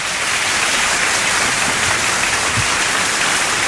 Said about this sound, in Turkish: Bu alkışlarım hekimlere bu arada. Ve boşluğu dolduruyoruz öte yandan. Burada çeşitli efektlerimiz var. Hepsi hekimlere, hepsi şiddet gören hekimlere, sağlık çalışanlarına, tüm bunlara rağmen özveriyle çalışanlara.